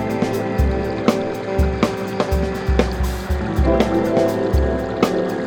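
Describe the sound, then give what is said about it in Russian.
Flowing river water runs steadily, broken by irregular splashes and soft knocks every half second or so, moderately loud, with no one speaking. “А река течет.”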